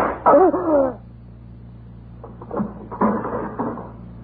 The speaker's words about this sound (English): This drawer is sticking. Here it is.